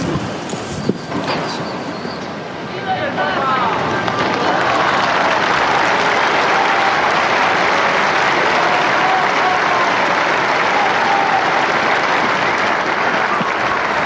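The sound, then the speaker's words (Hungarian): Applause from a large crowd after a blessing given by the Pope swells after a few seconds and holds steady, a dense, continuous roar of clapping that sounds broad, with no one speaking over it. “Ma sem marad el a szokásos taps és a Szentatya köszöntése, az ő szavainak, az ő áldásának a megköszönése”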